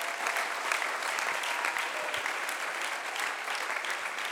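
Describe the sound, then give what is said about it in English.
An audience claps their hands in a steady, dense wash of applause that holds at an even level throughout, with many overlapping claps blending into a continuous roar and no voices standing out. “Do you believe that you ought to clap your hands right si now?”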